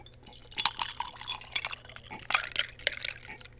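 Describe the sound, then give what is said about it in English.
A mojito cocktail is poured into an old-fashioned size glass at a restaurant: liquid splashes and trickles in uneven bursts, with small drips and faint clinks, fairly quiet, over a low steady background hum. “Go ahead and pour it into the glass.”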